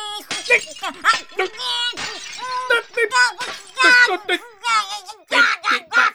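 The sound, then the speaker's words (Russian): Dishes are being smashed by Fanchon, a woodcutter's wife, in a rapid string of loud crashes and clattering breaks over about six seconds, with ringing shards and a high, agitated voice crying out between the impacts. “Ты посуду-то зря не бей!”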